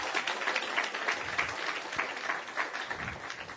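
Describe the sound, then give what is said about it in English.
A church audience applauds as a hand clap of praise to God, many hands clapping in a dense, continuous wash of sound that stays fairly even in loudness throughout, with no voices standing out. “Give God a good hand clap of praise.”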